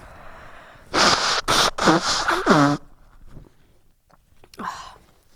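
human body sound, nose blowing

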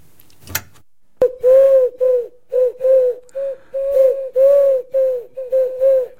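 bird, pigeon cooing

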